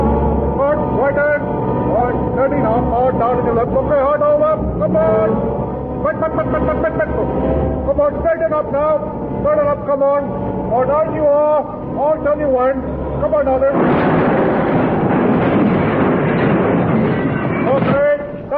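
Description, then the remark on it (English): A lorry reversing: a low, steady engine rumble runs beneath men's voices, then a harsher, louder surge of noise takes over for the last few seconds. “Do that lorry back, will you?”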